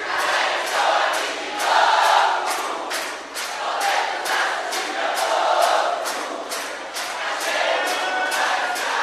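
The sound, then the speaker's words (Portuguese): A concert audience claps along to a song in steady unison, sharp regular beats about twice a second, over a loud swell of many voices singing and cheering together. “A bateria vai parar e vai ficar só as palmas de vocês.”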